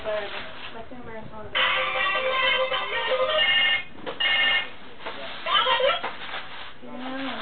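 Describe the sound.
A phone ringtone for an incoming call plays a bright, repeating electronic melody, fairly loud, running for several seconds with short breaks, while a voice murmurs faintly underneath.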